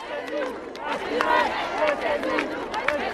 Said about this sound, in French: Laissez-nous respirer, scande la foule.